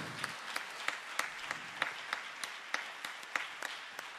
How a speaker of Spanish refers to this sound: Fuerte aplauso para ellos. Eskerrik asko, muchísimas gracias. ¡Fuerte el aplauso!